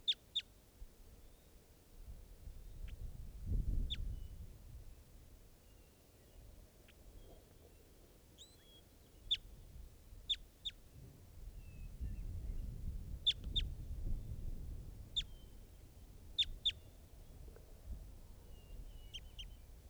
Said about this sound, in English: And this is an adult male type 2. Nothing. That's it. That's the bird.